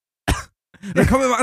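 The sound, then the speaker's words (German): A person imitates the way a grandmother coughs when she sneezes, giving one short, sharp coughing sneeze, a quick explosive burst, then a brief pause before carrying on speaking. “Also Oma hustet zum Beispiel so, wenn sie niest.”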